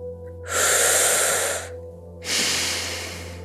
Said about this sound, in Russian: Мы делаем вдохи в диафрагму через рот трубочкой, так, чтобы расширялись нижние ребра, а выдох через нос.